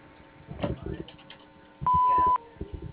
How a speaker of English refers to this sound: you've reached Moshone Landscaping Incorporated. We're unable to get to the phone right now, but if you leave your name, phone number, and a brief message after the beep, we'll get back to you as soon as possible.